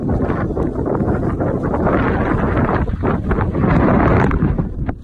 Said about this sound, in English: I remember, like, when we were walking down the beach, like, the sand was still, like, drifting over it as it was in this torrential downpour. Ew. Like, it was, like, this double eeriness where, like, there's these waves of sand and heavy winds.